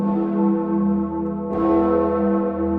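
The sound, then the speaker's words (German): Europe's largest medieval free-swinging church bell, rung only 12 times a year over Erfurt, Germany, rings with a deep, rich tone, its sustained hum and overtones filling the air, then a fresh strike near the middle renews the resonant, swelling clang. “Nur 12-mal im Jahr erklingt die größte mittelalterliche freischwingende Glocke Europas über den Dächern von Erfurt.”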